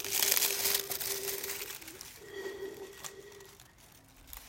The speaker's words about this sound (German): Hörst du, wie die Blätter im Wind rascheln?